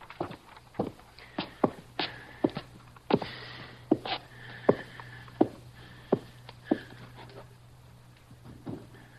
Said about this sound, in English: Keep going so he can hear your steps going down.